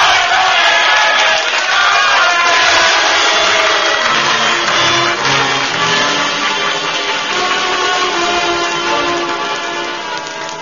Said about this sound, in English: Now they listen. Now they're cheering, but will they act?